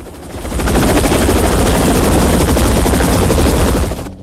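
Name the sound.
helicopters flying overhead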